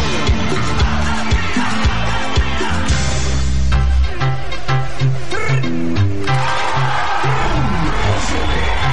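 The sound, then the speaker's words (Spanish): A large crowd shouts and cheers loudly and continuously for the whole stretch, a dense roar of voices with deep, steady tones pulsing underneath. “¡Todo el mundo grita!”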